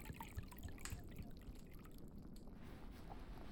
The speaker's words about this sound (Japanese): こちらは囲炉裏で温めた熱燗です。こちらをおちょこに注いでと。